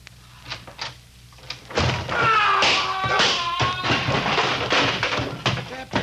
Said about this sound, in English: That was a nasty fall.